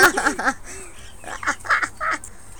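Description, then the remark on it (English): Bright, harsh budgie calls in short bursts, a quick chattering cluster followed by several squawky chirps, loud with no talking over them. “No, we've got birds in the background.”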